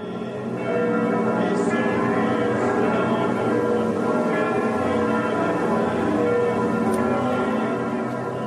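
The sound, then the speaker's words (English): Church bells ring out continuously in France, from village churches to Saint-Sulpice in Paris, after the fire at Notre Dame Cathedral: a dense, resonant wash of overlapping tolls that sustains steadily for several seconds, loud and reverberant with no talking. “From village churches to Saint-Sulpice in Paris, the sound of bells was everywhere.”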